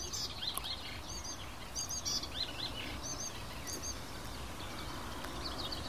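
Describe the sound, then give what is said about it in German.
A songbird mimicking a tit's song gives short, repeated two-note phrases, fairly quiet over a steady rumbling outdoor background. “Also ist es gerade von Schwarzspecht auf Amsel auf Grasmücke zur Meise gekommen.”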